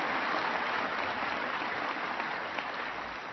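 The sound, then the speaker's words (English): A crowd of Marines applauding steadily, dense clapping that holds at an even level throughout before easing off slightly at the end, with no voices standing out. “Now, those are Marines applauding.”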